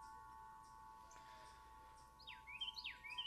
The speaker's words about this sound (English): It really is. I mean, the wind chimes, the birds. Are you in a beautiful little courtyard right now, or describe the scene, the setting that you're in?